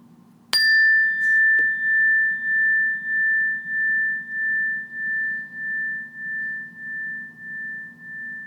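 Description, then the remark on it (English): A single meditation bell strike rings out with a sharp attack, then a clear, steady tone lingers and slowly pulses as it fades over several seconds, with a low hum underneath. “So what I want to encourage you to do is, when you hear the sound of the bell, just start by taking a few relaxing breaths in and a few relaxing breaths out, and then wait for further instructions.”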